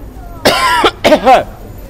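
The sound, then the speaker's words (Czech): Two loud coughs a moment apart, the first a harsh broad burst and the second a rougher, throatier hack, with faint background noise around them and no talking. “Jeste, bit će dalje i kašlja.”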